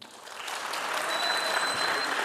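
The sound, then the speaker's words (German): Steady audience applause for a contestant, a dense wash of many hands clapping that swells slightly after the start and holds at a fairly loud, even level, with a faint high whistle-like tone running through it. “Und jetzt euer Applaus für”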